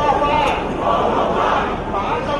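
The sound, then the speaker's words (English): A street protest crowd of hundreds of thousands in Hong Kong, showing dissatisfaction with the way China is trying to run the city, roars and chants together in a dense, sustained wash of voices, loud and steady with slight swells, no single speaker standing out. “The sounds of protests this weekend in Hong Kong, hundreds of thousands came out into the streets there to show their dissatisfaction with the way China is trying to run the city.”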